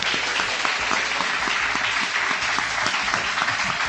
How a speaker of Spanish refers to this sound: pido a estos alumnos de cuarto y quinto de este colegio Sagrada Familia un aplauso muy fuerte.